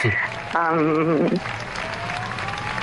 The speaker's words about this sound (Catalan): És a dir, per una banda, doncs és d'agraïment, no?, sentir aquests aplaudiments i aquesta escalfor, no?, de la gent que sap que estem allà cuidant-los.